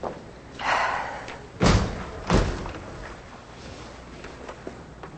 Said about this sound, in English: He takes the judge's outstretched hand and goes with her into her chambers. Chris and Mason sit on opposite sides of the doorway as the judge shuts two large doors behind her.